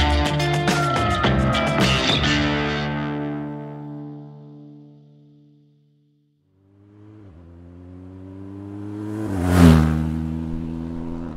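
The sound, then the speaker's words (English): A motorcycle engine revs loudly, its pitch falling away to near silence, then a second rising rev builds to a sharp roaring peak before easing off. No one speaks. “Instead of four paws, I'm on two wheels. I'm on a mission. A motorcycle quest to try and retrace the path of Germany's wolves, following them westward from Poland into the former East Germany.”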